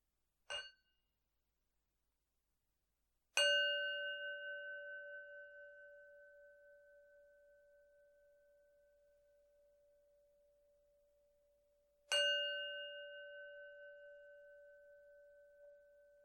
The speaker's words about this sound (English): So we'll start with three sounds of the bell.